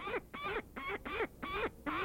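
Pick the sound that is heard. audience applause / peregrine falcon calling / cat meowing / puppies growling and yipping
peregrine falcon calling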